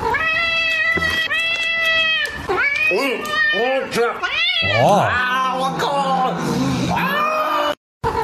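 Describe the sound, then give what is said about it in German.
A small cat wanting fresh meat meows loudly and insistently, a string of long, wavering, drawn-out yowls with rising and falling pitch, continuous for several seconds before a brief cutoff. “Ja, also die Katze hat Bock auf frisches Fleisch, auf wunderschönes Fleisch.”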